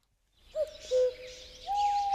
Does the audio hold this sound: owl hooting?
yes